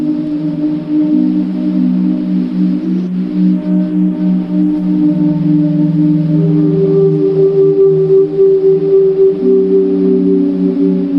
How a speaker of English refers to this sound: And suddenly, you know, instead of my sort of really out of tune whistling, you get this kind of ethereal choir sound just from that one recording of whistling in a stairwell.